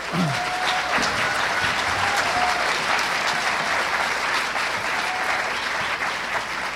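A roomful of people at a panel discussion event claps steadily as panelists come up to the stage, the dense applause holding at an even, fairly loud level throughout without a pause or any voices standing out.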